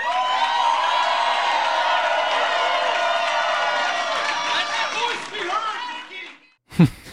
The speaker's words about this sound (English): I love the yelling guy. I love that guy. I love that guy.